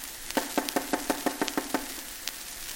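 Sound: knocking on a door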